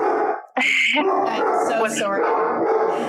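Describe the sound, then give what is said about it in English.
A dog barks and yips several times in quick, uneven, loud bursts, with a person talking underneath throughout. “All right, I'm going to stop you there for a second. I'm just going to with my dog.”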